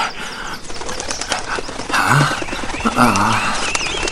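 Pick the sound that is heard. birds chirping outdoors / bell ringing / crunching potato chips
birds chirping outdoors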